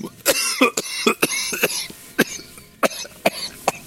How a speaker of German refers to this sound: Entschuldigung, ich habe mich verschluckt. Ein Schluck Wasser. Das geht ja in die Husterei jetzt hier.